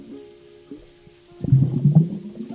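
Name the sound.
water bubbling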